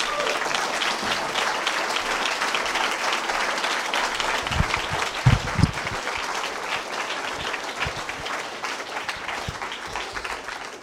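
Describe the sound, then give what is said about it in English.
An audience at a 12-step meeting claps steadily for about ten seconds for the evening's speakers, a dense, even wash of applause with a few sharper claps standing out midway. “Let's have one more round of applause for our speakers this evening.”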